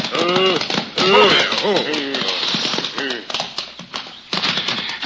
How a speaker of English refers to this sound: They drove their horses down the path at breakneck speed and soon drew abreast of the mighty tree he had mentioned.